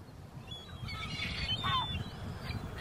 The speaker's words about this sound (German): Und dann gibt's auch die Möwen. Auch diese segeln, allerdings hoch oben in den Lüften.